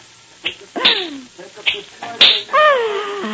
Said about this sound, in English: I love to hear that sound. And when you crack your whip like that tonight in the center ring, Rosa the equestrian, the daring rider, will die.